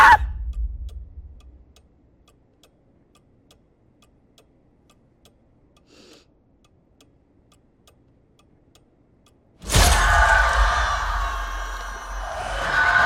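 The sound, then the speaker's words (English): After a long hush with faint ticking, a woman's loud, sustained scream suddenly erupts and rings out with a reverberant echo across a barren landscape in China until the end. “Her screams reverberating across the barren Chinese landscape.”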